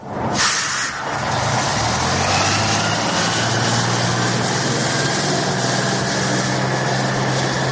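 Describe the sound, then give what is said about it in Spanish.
A bus engine rumbles steadily, with a low droning hum and broad road noise, opening with a short sharp hiss like an air brake, on a trip of over 220 kilometres from the León residence to Poniente beach in Gijón. No one speaks. “En un estupendo autobús recorrieron los más de 220 kilómetros que separan ambas ciudades.”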